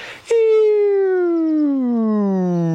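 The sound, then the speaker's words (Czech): During a vocal warm-up exercise, after a brief breathy rush, a voice sings one sustained, smooth tone that glides steadily downward in pitch without vibrato, imitating the sound of something falling. “Teď to samé bez vibrace, zvuk padání.”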